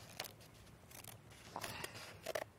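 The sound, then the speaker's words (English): Scissors snip through a whole piece of paper in several quick, crisp cuts, a fairly quiet crunching rhythm with short pauses between strokes and no talking. “Okay, so we cut the whole piece of paper, and then we cut through here.”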